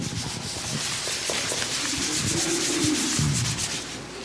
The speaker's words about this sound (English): After a pause, there came a soft rustling of hay.